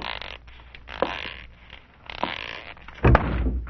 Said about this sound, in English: Oh, ouch, doggone. Who left that closet door open? I don't know. Oh, thank goodness. There, the lights are back on. Oh, yeah. Boy, did that ever hurt. No wonder you bumped into the door. There's no room to squeeze by.